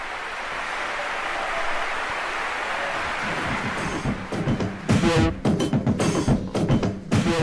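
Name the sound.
applause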